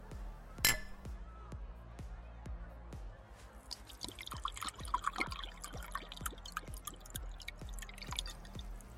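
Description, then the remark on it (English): A sharp glass clink, then champagne poured into glasses, with a fizzy, bubbling hiss building over a steady pattern of small dripping ticks, moderately loud. “Champagne? Here, hold this.”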